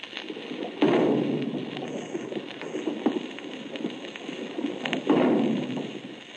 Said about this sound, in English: Members of the crew slamming bulkhead doors.